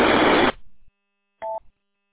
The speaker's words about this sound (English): Yeah. So as soon as you hear the little static or if you hear the little repeater beep noise, you can just interrupt that there.